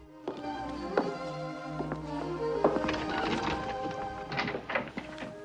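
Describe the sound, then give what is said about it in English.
Horse hooves clip-clop in an uneven rhythm of sharp knocks, growing a little louder and busier as the horse approaches a house; no one speaks. “She hears the horse approaching and looks up excitedly.”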